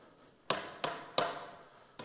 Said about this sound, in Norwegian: En dag, da hun besøkte et vennepar på Tynset, så banker det på.